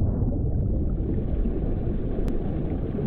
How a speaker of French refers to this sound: Et puis soudain, un grondement, comme une explosion sourde.